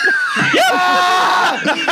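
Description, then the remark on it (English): A voice imitates high, wavering screams for about two seconds, loud, with bursts of laughter-like sounds and other voices mixed in. “My favorite restaurant is the Screaming Restaurant where people just scream. You just hear screams.”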